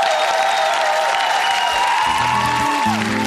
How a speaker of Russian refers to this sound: Специально для вас, под Новый год. Аплодисменты.